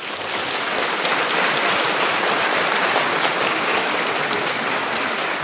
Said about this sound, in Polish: Są z nami słuchacze Radia Maria i widzowie telewizji Trwam. Przywitajmy ich bardzo gorącymi oklaskami.